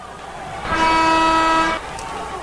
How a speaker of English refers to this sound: So you get a swish if you're right, and you get a buzzer if you are wrong.